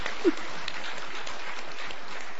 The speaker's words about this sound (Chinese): 巴不得你们的拍手是荣耀上帝。 你的拍手哦 ，OK， 巴不得你的拍手是荣耀上帝。